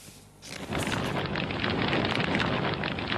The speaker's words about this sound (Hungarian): Robbanások és füst a pekingi olimpiai stadionnál. Az Al-Qaida videó üzeneteihez hasonló felvételt az interneten terjeszti a turkesztáni iszlámpárt.